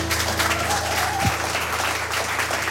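An audience applauds steadily, a dense wash of clapping hands that holds at an even level throughout, with a faint low hum running underneath.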